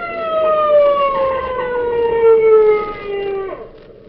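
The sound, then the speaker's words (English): An approaching police motorcycle's siren wails in one long tone whose pitch slowly slides downward over a steady engine rumble, then dips sharply and fades near the end. “There's somebody coming. Motorcycle cop.”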